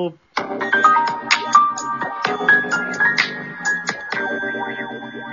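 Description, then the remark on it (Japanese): A voice drenched in a heavy echo effect at the opening of a radio program, its tones smearing into long ringing tails that overlap continuously for several seconds, loud with a metallic, effects-laden shimmer. “いいエコーで、ありがとうございます。”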